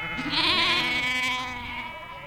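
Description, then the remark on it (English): A flock of sheep grazing on a green hillside bleat in a long, wavering, nasal cry that fills the whole moment, with other bleats blending in close by; no one speaks. “Up close, the sheep look like they're just happily chomping on grass.”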